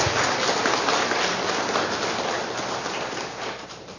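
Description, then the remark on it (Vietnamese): Sustained, dense applause from a large crowd, offered up to God, fills the whole stretch, a steady wash of many hands clapping at once that eases off slightly toward the end. “Chúng ta dâng lên Chúa một mẹ một tràng pháo tay nữa.”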